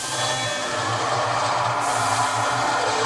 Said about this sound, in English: This is only a test. In the event of an emergency, this is the siren sound and message you will hear.